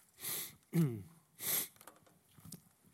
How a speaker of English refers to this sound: And I apologize for my sniffles. I actually have taken my sinus medicine and all that, trying to get rid of it, but I'm afraid I've been struggling all week with one of these, you know, cold things that's going around, and so I am a little stuffy